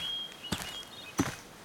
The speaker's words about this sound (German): Von irgendwoher hört man Schritte.